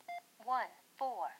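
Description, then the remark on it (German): A single short electronic beep from pressing the Enter key on a device, a steady two-tone blip, followed by a voice speaking. “Drücke ich jetzt die Enter-Taste.”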